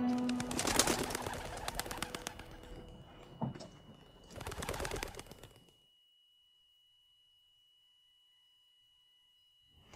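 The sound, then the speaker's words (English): Birds fluttering and calling in an enclosed space, two busy bursts of sound a couple of seconds apart, then near silence with only a faint steady high tone lingering. “Oh! There's birds in here.”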